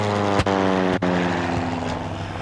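A loud, steady airplane engine drone hums continuously with a deep, layered tone, like a propeller plane cruising in flight as it heads home, broken only by a couple of faint clicks.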